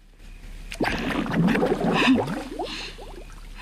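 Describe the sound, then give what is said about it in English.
Water gurgles and bubbles in a bathtub, a churning burst of watery pops and sloshing that swells over about two seconds and then fades, with no voices. “The water bubbles.”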